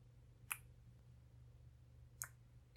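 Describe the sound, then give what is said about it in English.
Two soft, wet kissing smacks, kisses given on the forehead and cheeks, spaced well apart over a quiet, low background hum, with no talking. “Speaking of which, let me just shower you with some more kisses. On your forehead. On your cheeks.”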